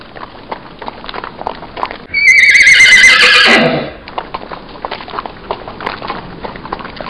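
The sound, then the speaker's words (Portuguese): A horse's hooves clop in a steady, quick rhythm throughout, broken by one loud, drawn-out whinny that rises sharply and then trails downward before the hoofbeats carry on. “A mulher transformada percorre 7 povoados ao longo da noite, e seu galope pode ser ouvido, acompanhado de longos relinchos.”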